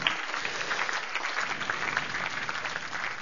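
Steady applause from an audience, a dense patter of many hands clapping at an even, moderate loudness throughout, with no voices standing out.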